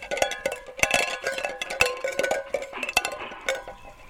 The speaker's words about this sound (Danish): Jeg har købt en kylling ned i Kvickly. Ja. Og så har jeg bundet den i en snor. Og så har jeg bundet nogle, sådan nogle dåser i den snor også. Sådan det larmer. Vil du høre det? Prøv lige at høre nu.